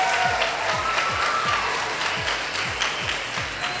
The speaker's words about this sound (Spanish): Quiero pedirles un aplauso para la productora